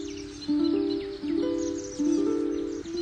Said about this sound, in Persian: شاید نتوانی باور کنی، ولی نوای چنگ لوری را هر پرندهی بشنود تکرار میکند. گوش کن.